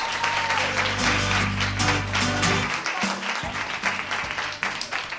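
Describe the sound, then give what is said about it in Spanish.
Applause from the audience at Colegio San Francisco de Asís in Cocentaina during a live broadcast of the Radio UMH programme Despierta UMH: dense, sustained, a steady wash of many hands clapping at once with a low rumbling hum underneath, loud throughout with no voices standing out. “Después de este aplauso tan espontáneo de nuestro querido público, vamos a presentar al equipo que va a hacer posible el Despierte de hoy.”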